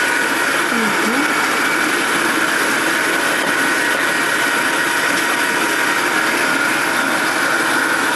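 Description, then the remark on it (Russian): An electric meat grinder runs steadily, mincing fish meat cut from the bones, with a loud, constant motor whir and a rough grinding hiss that holds unchanged throughout, with no talking. “Закрутили мы рыбу, добавляем лук весь?”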